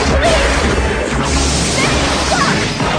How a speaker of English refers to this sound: His trident glows. One by one, her treasures shatter.